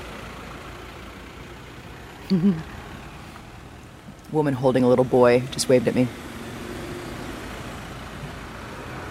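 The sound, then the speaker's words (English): A steady, low rumble of idling car engines in a line of traffic stretching for miles on the highway going west from Vinnytsia toward Lvov, cars packed with kids, animals and suitcases, moving about 5 kilometers an hour, while a voice speaks briefly over it. “And we're in a line of cars as far as the eye can see on the highway going west toward Lvov from Vinnytsia.”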